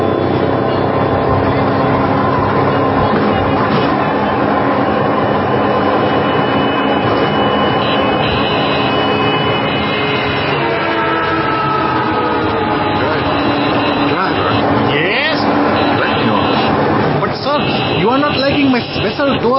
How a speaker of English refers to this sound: Well, jet lag or not, I think I'll try one of those three-wheeled scooter taxis. It's nothing like a little careening through traffic to wake me up.